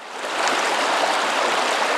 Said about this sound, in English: Here's what the stream sounded like before the dam.